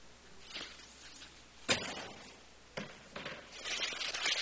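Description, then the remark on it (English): Paper crinkles and rustles, then two sharp muffled smashing impacts sound from inside a paper bag as an object inside shatters into thousands of pieces, followed by more crackling, scrunching paper noise. No voices. “Putting that in a paper bag, and I'm hoping it works.”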